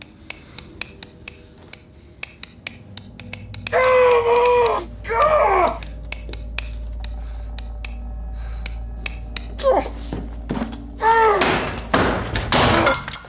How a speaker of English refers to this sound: Chandler batters the light switch with something heavy, then hurries off.